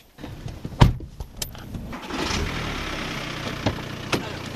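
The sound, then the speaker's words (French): A few sharp clicks and a jangle of keys, then a car engine turns over and settles into a steady rumble as the car sets off toward the fields. No one speaks. “Allez, en voiture. Direction les champs.”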